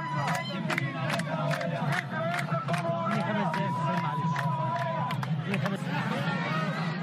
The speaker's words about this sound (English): A large crowd of villagers gathered outside a polling station in the province of Dakhalia as women ululated from time to time to applaud those who were going in to vote.